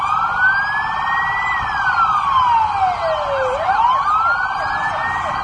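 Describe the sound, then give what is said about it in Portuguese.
Several emergency vehicle sirens from fire brigade, military police and SAMU ambulance vehicles arriving at an accident simulation in the centre of Maringá, Brazil, wail at once, their pitches sweeping up and down and overlapping loudly and steadily, with no one speaking. “Carros do Corpo de Bombeiros, Polícia Militar e SAMU foram ao local.”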